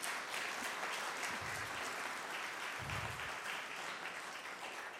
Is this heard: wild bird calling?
no